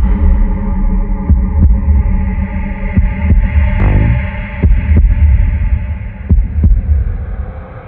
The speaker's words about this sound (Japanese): 始まりの鼓動が聞こえる。